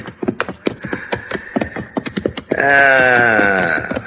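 Rapid hoof clops for a couple of seconds, then a loud horse whinny with a quavering, wavering tone that carries to the end; two horses, not range horses.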